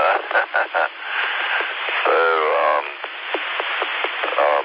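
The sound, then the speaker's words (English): Steady hiss of radio static fills a narrow, tinny amateur radio repeater transmission during a radio check, with a few short bursts early on and a faint garbled voice breaking through partway. “Sounding good, a little bit staticky, but not bad.”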